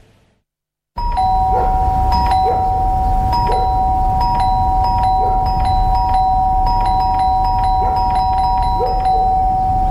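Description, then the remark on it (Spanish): A doorbell in a Sodimac advertisement chimes repeatedly with steady, sustained bright tones over a constant low rumble, ringing again and again with no voices. “¿Escuchaste eso? El Cyber de Sodimac está tocando a tu puerta y tu casa lo sabe.”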